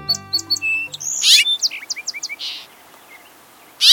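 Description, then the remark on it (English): Sweet, bright cheeping calls of resident house finches calling to one another, a quick run of short chirps repeating, with a louder buzzy burst and fainter chirps in the background. No one speaks. “All winter long, our neighborhood resident house finches have called to one another with their distinctive, sweet cheeps.”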